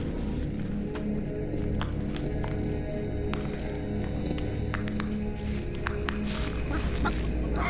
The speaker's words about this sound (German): Ein Huhn. Ein einziges Huhn. Nichts ist komischer als ein alleinstehendes Huhn zu Füßen der Finanzmonumente Mitteleuropas.